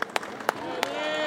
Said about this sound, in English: And the crowd, they seem to be going for it. As she starts talking about these battles and as she talks about these invasions, applause is building, and then she sort of culminates in talking about Matteo Salvini.